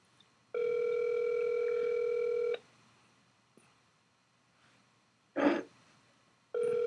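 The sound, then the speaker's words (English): A ringback tone on an outgoing phone call that goes unanswered: a steady two-second electronic ring, a long pause, then the next ring beginning, with a brief throat-clearing sound in the quiet gap. “So he's not gonna answer the phone.”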